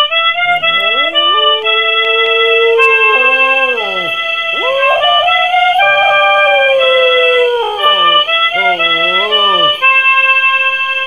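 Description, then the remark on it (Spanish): A harmonica plays a slow, improvised tune alone, made up at night in bed in Quipatla with a dog lying alongside, holding reedy chords and bending notes up and down in long wavering phrases, loud and continuous throughout. “Esa noche me inventé una tonada en la armónica, acá, con el gruperro echadito conmigo en la cama.”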